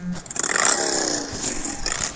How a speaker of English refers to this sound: His ringtone is a motorcycle engine revving.